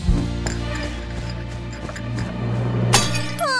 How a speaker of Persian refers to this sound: وای فکر نکنم صدای خوبی بود. ای وای کسیا فنجونت. مریگول اینجایی؟ تو فنجون مورد علاقه ما شکستی.